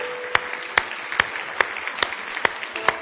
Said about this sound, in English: Now give him one more hand clap of praise if you love him tonight.